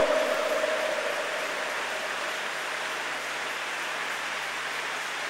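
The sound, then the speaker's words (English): An audience claps continuously, a dense crackling wash of many hands at a fairly steady loudness throughout, with no voices standing out above it. “Go ahead, keep on clapping.”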